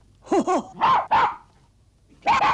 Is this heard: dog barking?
yes